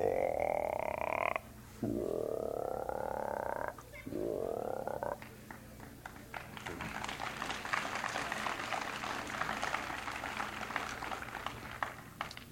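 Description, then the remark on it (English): Bullfrogs croaking outdoors in Florida: three long, drawn-out rising croaks sound loud, then give way to a dense, busy chorus of overlapping frog calls. “And the bullfrogs, they're about like those big lazy dogs.”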